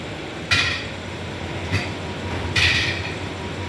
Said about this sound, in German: 10.000 Mal über die Schwelle. 500 Pfosten links, 500 Pfosten rechts. Mit Schmackes knallt ein Roboterarm den Staubsauger an Türrahmen und zerrt ihn über Türschwellen.